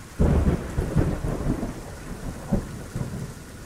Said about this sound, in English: For many of us, monsoon season is a time of anticipation and relief. We wait for the storms to come and soak up the rains when they do.